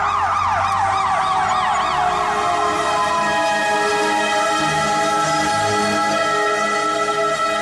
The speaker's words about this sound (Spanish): Pero poco después de las 6:30 de la mañana, el sonido de las sirenas rompió la calma en el sur de Israel.